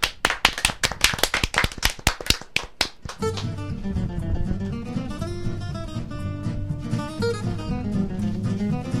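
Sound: applause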